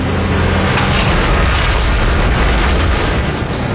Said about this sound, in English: This is what life sounds like when you drop a bunch of landscaping blocks on the roll-formed, high-strength steel truck bed of the Chevy Silverado.